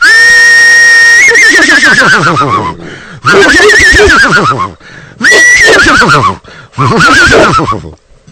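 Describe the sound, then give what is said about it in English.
A person's voice imitates a horse whinny four times in a row, loud, each a high wavering neigh that trails downward, with brief pauses between them and no talking; done live with the voice, not played from a button. “people are going to think that it's not, that I'm pushing a button. But you're my witness to say, no, I'm actually doing this”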